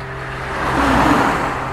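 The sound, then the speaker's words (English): A single car passes by on the road across from a house, its broad engine and tyre rush swelling to a peak midway and then easing off slightly, with a steady low hum underneath and no voices. “The camera is pointed directly across the road, so I can have a good stare and keep an eye on details such as the colour of the cars passing by, you know.”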